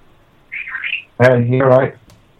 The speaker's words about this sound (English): It should start any second now. That's your ringtone. Ladies and gentlemen, that's my brother's mobile phone.